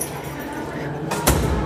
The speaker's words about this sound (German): Tür geht zu.